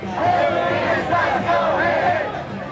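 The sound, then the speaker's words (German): A large crowd of Bernie Sanders' supporters boos loudly and continuously after he urges them to vote for Hillary Clinton in the fall, many voices merging into a sustained, swelling roar of disapproval that holds steady for a few seconds before easing slightly. “Er hat sie aufgefordert, im Herbst Hillary Clinton zu wählen und wurde ausgebuht.”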